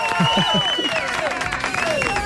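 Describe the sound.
An audience applauds with a dense, steady patter of clapping, mixed with cheering and whooping voices throughout the couple of seconds.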